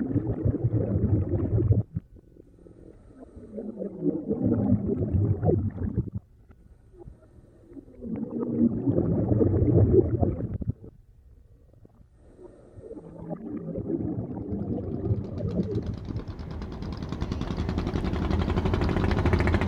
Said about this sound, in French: Donc là, nous avons deux petits bateaux qui arrivent. Je pense que c'est des Chinois.